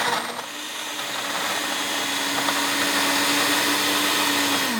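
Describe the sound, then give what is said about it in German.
A blender whirs loudly and steadily in a music pub in Würzburg, crushing ice, strawberries, sugar, vodka and lemon juice with a gritty, churning roar and a sustained motor hum that climbs slightly in pitch, with no voices. “schüttet Eis, Erdbeeren, Zucker, Wodka, Zitronensaft in den Mixer. Das wird schon mal ein wenig laut.”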